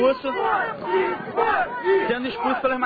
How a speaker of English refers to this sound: Molica says groups like Media Ninja are so against traditional outlets that they, quote, out mainstream reporters at events. Crowds then surround them, as in this incident this year, chanting for them to leave.